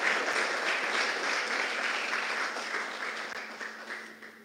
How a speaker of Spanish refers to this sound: Mire para acá y dele un aplauso a Dios.